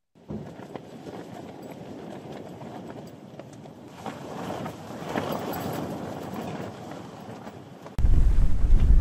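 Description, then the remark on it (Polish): Strong wind in Australia roars and buffets the microphone steadily, shaking a tied-down tent together with a car, building to a heavy, booming gust near the end with deep low rumbling and flapping. “Jak nie mróz, to straszny wiatr.”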